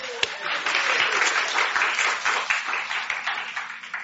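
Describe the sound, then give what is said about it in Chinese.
A church audience applauds people baptized the week before, steadily for about four seconds, a dense wash of many hands clapping at an even, moderate loudness, with a single sharper clap near the start and no one speaking over it. “特别是上个礼拜受洗的请举手，这个礼拜啊，拍手拍手拍手。”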